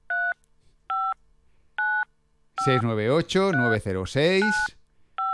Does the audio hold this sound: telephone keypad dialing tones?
yes